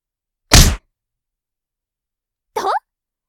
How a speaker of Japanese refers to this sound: 軽くとはいえ、鼻にパンチ当てられてちょっと痛かったんじゃない？これで目が覚めた。私のパンチ結構早いでしょ。